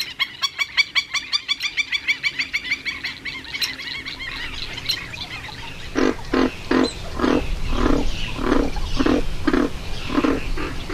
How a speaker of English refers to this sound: Those are moor pig frogs, first cousins to the bullfrog. They sound more porcine than bovine.